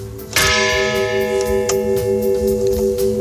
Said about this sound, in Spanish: Ha sido breve, solemne, en el cementerio de Zallo, en Guernica, muy cerca de donde cayeron las bombas y con más gestos que palabras mientras resonaban las campanas de San José.